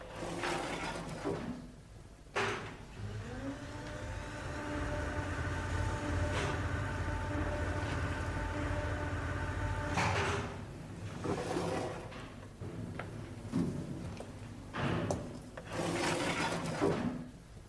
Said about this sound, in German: Wenn Sie den Lift hier benutzen wollen, drücken Sie nur bitte auf den Knopf hier. Die Wohltaten der modernen Technik. All right, schließen Sie die Tür.